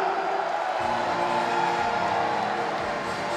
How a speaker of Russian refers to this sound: Это был действительно отличный турнир и прекрасное противостояние. Ваши аплодисменты всем ребятам, которые выходили сегодня на ковер. Ваши аплодисменты, друзья!